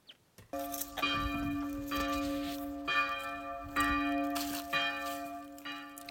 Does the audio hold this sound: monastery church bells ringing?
yes